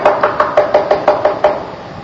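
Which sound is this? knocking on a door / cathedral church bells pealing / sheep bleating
knocking on a door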